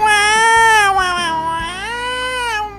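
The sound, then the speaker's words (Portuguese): A single long, drawn-out cat meow, loud, wavering in pitch and sliding down at the end, with low background noise underneath and no talking. “é o Tiaguinho Cara de Gato, miau, miau, miau, miau, miau, miau, miau, miau, miau”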